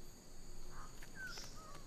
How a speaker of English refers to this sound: Like this Goldie's Bird of Paradise. Never filmed before, Goldies are just one of New Guinea's 38 species of bird of paradise, all famed for their spectacular plumage.